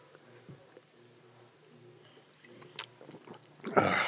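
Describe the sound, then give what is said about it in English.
Quiet sipping of wine by a few people at the same time: soft wet mouth clicks and swallows, then a louder breathy slurp near the end. “Let's each take a sip of this awesome wine at the same time”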